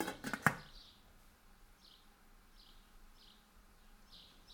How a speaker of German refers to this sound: Ich lege den Deckel auf die Pfanne.